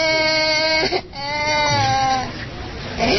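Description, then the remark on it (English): An injured infant girl with a split skull and broken legs wails loudly in a hospital as her father tries to comfort her: long, strained cries, breaking briefly for a gasp before crying again, then trailing off into rough, noisy background sound. “At one hospital, a father tried to comfort his infant daughter.”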